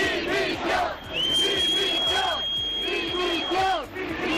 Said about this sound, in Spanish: De nuevo abucheos a la llegada del presidente del gobierno, Pedro Sánchez, a quien ha tenido que esperar el rey, por cierto, aunque fuera en contra del protocolo.